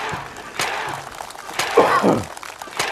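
Bricks crack and break under karate-chop hand strikes, three or four sharp, forceful smashes at irregular intervals over a steady, noisy background.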